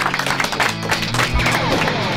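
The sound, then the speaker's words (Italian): A steady wash of crowd applause, many hands clapping densely and evenly for a couple of seconds, with a low tonal hum running underneath. “Grazie, un applauso.”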